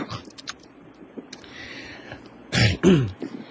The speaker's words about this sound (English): What's he doing? He's clearing his throat. I'm clearing my throat.